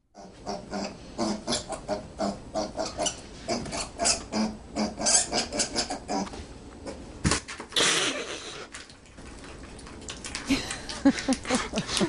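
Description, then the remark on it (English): A small teacup piglet named Hamlet makes its way down a staircase toward an oatmeal reward at the bottom: a long run of quick, irregular hoof clicks and taps, mixed with occasional soft grunts and snuffles, fairly loud throughout. “All right, let's listen to the teeny weeny piglet making his way down the stairs.”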